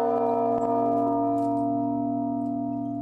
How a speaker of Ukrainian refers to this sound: Двері вежі відчиняє лише дзвонар, але він долає половину шляху, щоб задзвонити у знаменитий мідний дзвін Кирило, що в діаметрі має 2 метри, і дзвенить, як казали, по-сільському.